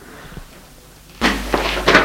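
After a second of near silence, a father opens a door with a sudden loud, rough burst of noise and a low rumble, followed by a couple of shorter scraping surges.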